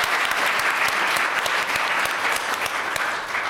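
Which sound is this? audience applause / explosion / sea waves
audience applause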